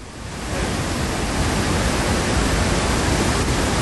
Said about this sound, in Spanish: y es tal el estruendo que es que no se ven las cataratas